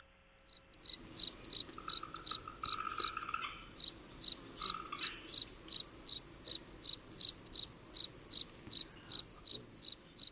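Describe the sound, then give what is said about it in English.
A spring field cricket (Gryllus velitus) chirps steadily, its bright, shrill pulses repeating at an even pace about twice a second, clear over a faint background hum; each chirp is made by a shuffle of its raised wings. “Spring Field Cricket, Gryllus velitus.”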